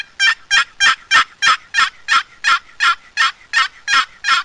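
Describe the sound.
A series of about a dozen raspy, evenly spaced yelps imitating a hen turkey, made on an old wooden box call, loud with a steady rhythm and no talking.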